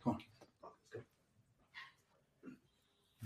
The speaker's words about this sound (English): Here's my dog, by the way.